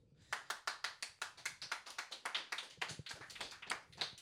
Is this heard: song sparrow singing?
no